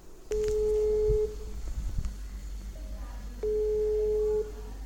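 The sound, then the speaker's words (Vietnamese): Two long, steady ringback tones, each lasting about a second, sound from a phone line with low background noise and faint clicks between them as a call to a man in Bình Thuận commune connects. “chúng tôi xin kết nối điện thoại với anh Hải ở xã Bình Thuận”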